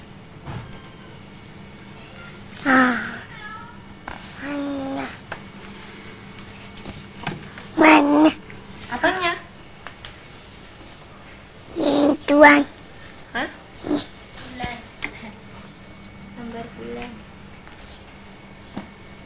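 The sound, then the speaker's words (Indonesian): A cat meows several times at uneven intervals, short clear cries standing out over a low steady hum, with a few fainter mews in between. “Ya meong. Ini meong.”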